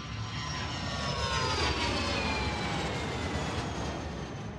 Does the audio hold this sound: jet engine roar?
yes